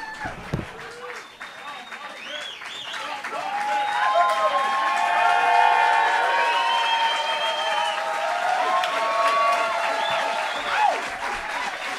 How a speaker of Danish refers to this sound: Og så må I meget gerne klappe, som om det er første gang, I ser os. Det vil være helt vildt fedt.